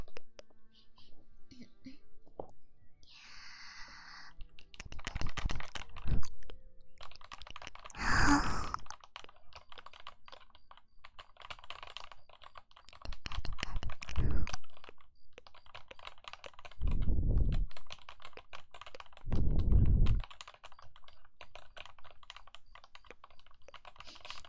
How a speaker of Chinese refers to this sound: 接下来做一个键盘的声音